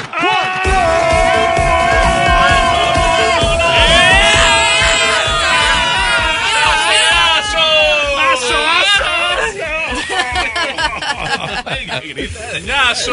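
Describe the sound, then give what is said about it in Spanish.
A crowd of people shouting and cheering at full volume, a dense, continuous roar of high excited voices with whoops and yells rising and falling throughout. “Así estaban gritando ayer en mi casa cuando yo estaba dormida.”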